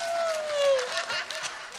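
A crowd claps in a dense, steady patter of many hands, with a brief falling whistle-like tone near the start; no one speaks.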